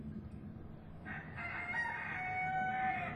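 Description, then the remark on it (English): A rooster crows in a long, rising cock-a-doodle-doo, with scattered hen clucks over a steady low rumble of background noise, in a garden at Cradock Hall. “Chickens!”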